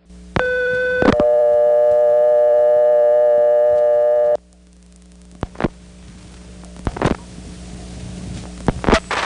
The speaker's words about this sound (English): You'll hear three MFs, the KP, a 1, and a start, which indicates this phone line doesn't have a number that gets the operator to come on and ask for the number. So here's 81 plus 1 plus 411, and listen for the ANI sending key pulse 1 start.